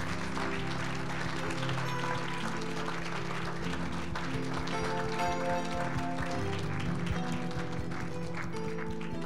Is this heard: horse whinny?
no